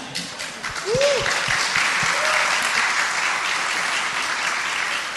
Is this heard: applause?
yes